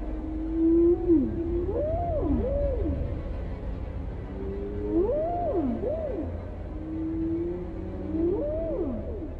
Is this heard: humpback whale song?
yes